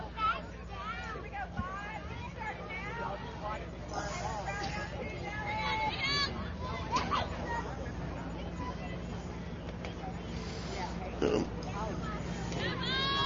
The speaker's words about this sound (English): Good crowd on him for the Saturday afternoon game.